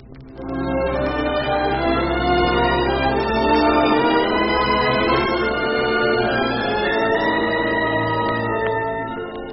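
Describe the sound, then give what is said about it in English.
Church bells ring out in a full, overlapping peal, their tones hanging and blending into a steady wash of sound that stays loud for the whole stretch, with no voices. “You can come down then, and we can tell be the bells when church is out.”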